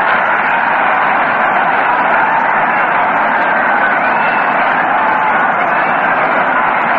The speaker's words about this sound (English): It's a two-base hit. Listen to that roar of the crowd.